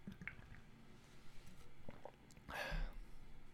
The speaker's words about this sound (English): I got to take a sip of water because it's going to get heavy.